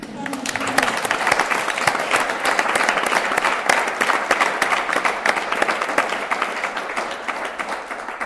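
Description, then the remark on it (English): An audience applauds steadily for several seconds to welcome the week-two arrivals, a dense, sustained patter of many hands clapping at once, fairly loud, with a brief murmur of voices at the very start. “And then let's give them a round of applause for actually showing up.”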